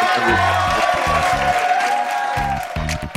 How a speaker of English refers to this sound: And that applause you heard was recorded audio studio audience, because we don't have studio audiences.